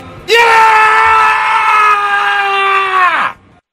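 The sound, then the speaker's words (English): One loud, sustained guttural morning scream holds a steady, strained pitch for about three seconds before cutting off with a slight downward slide. No talking over it. “We each took a turn at guttural scream at 6 a.m.”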